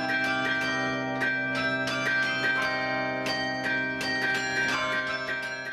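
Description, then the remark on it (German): Bells of a 1950s carillon, whose largest bell was donated by Konrad Adenauer, ring out in a lively run of struck notes, bright metallic tones layered over a sustained humming resonance, with repeated strikes at a fairly quick, uneven rhythm and no voices. “Doch über die Orgel ist er 2015 zum Carillon gekommen und hat begonnen, sich das Spielen darauf selbst beizubringen.”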